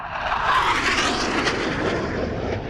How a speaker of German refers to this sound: Und also sowas wie 110 oder 20 Dezibel ist keine Seltenheit bei Fledermäusen. Und das ist wirklich nahe am startenden Düsenjet.